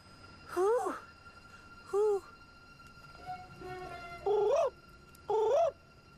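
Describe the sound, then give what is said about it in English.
A woman leaning out of a car window, parked on wasteland at the American-Mexican border, imitates an animal call, giving four short, loud, wavering cries spaced a second or so apart, with a few quieter sustained tones between them. “She leans out of the window and makes an animal call.”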